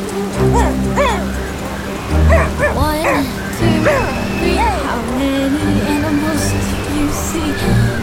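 animal, dog barking and whimpering

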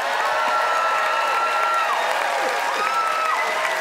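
crowd, audience applause

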